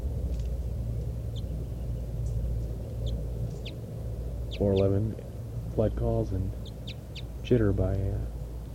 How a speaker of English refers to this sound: Wild bird, 411 flight call series.